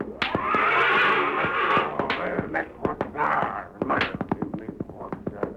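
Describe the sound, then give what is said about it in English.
Lightning Jim's big black horse, Thunder, neighs and snorts loudly while hooves stamp and scuffle in a rapid, uneven flurry of thuds as a man tries to subdue it, like an animal struggling against being held. “When he arrived, he found Indian Joe making another attempt to subdue Lightning Jim's big black horse, Thunder.”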